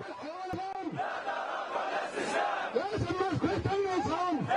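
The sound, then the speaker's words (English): A large crowd of anti-government protesters in Tahrir Square, Egypt, chants in unison in the morning, pushing for President Hosni Mubarak to leave power, many voices rising and falling in repeated rhythmic phrases, loud and steady with a dense roar of voices underneath. “Sound of chanting from a little earlier this morning.”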